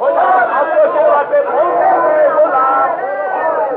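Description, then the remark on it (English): A crowd of the Emperor's reception committee cheers and calls out together, a steady, loud wash of many overlapping voices that holds for several seconds without a break. “Oh, they're cheering.”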